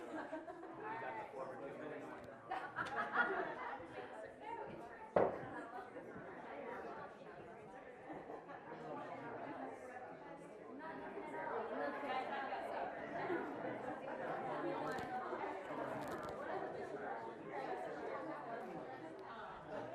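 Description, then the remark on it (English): Many overlapping conversations fill the whole stretch as audience members tell stories to two or three people around them, a steady murmur of small groups chatting at once with no single voice standing out, broken by a sharp knock or two early on. “tell maybe two or three other people around you those stories, and I'll give you a few minutes”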